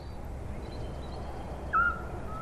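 A small grey owl: the male gives a brief, clear, fuller tooting note, followed by a fainter, softer, higher-pitched toot from the female, over a steady hiss of outdoor background noise.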